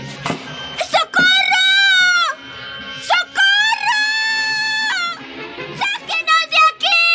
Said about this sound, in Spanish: No, no te canses, muchacho. Nadie escuchará tus gritos. Estos gruesos muros de acero ahogan el ruido más fuerte.